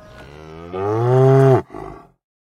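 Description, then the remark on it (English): A cow lets out a single loud, drawn-out moo that swells and then cuts off, followed by a short rough, breathy tail. No one speaks. “I had sexy time with all the cows in my herd, and not one of them caught it.”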